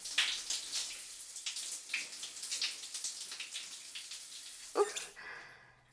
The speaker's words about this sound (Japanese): ねえ、こっちの椅子に座り直して、うん、ちょっとチンチンの泡を流すね。